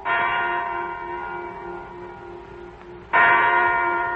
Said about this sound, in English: A big clock jangled its news that the time was 9 o'clock in the morning.